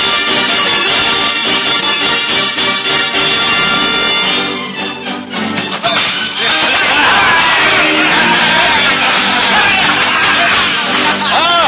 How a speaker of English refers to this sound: And look you now within the forest glade where cudgel meets oaken cudgel, as green-clad Robin matches blow for blow the noble efforts of Little John, the merry men of Sherwood withal, cheering on their mighty leaders.